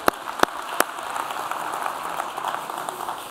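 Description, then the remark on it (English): A church audience at Genesis Metro Church claps steadily for the worship band, a dense wash of many hands, with a few sharp claps standing out at the start. No one speaks over it. “Thank the band for leading us in worship. How about a round of applause?”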